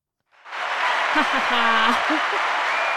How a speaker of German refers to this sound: Und genau, dann wird am Ende nochmal geklatscht. Und dann stehen alle auf und gehen. Wie wird geklatscht? Mit den Händen.